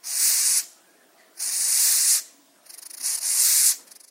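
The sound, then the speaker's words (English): A Madagascan hissing cockroach, pushing air through its spiracles (breathing holes), gives three loud, breathy hisses, each lasting about half a second to a second, separated by short pauses. The last hiss begins with a fluttering, pulsed onset. “Here's a Madagascan hissing cockroach doing what it does best.”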